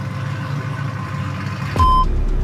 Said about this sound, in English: This loud truck.